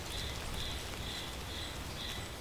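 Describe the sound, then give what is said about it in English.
Light drizzle patters down in a soft, steady hiss on a misty morning in the Andes outside the village of Futaleufú, while a faint high-pitched trill repeats every half second or so in the background. No one speaks. “It was misty, it was drizzly”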